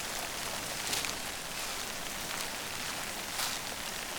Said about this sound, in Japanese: 今あなたが歩いているのは夢の世界。雨の降る森の中です。